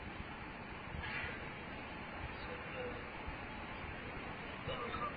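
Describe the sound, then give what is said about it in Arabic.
A train passing by, heard as a steady, continuous rumble and clatter that fills the whole stretch at a moderate, even level without clear breaks. “تعطينا القطار الله يهديك”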